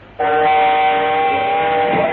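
train sound effect

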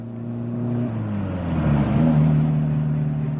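car engine accelerating

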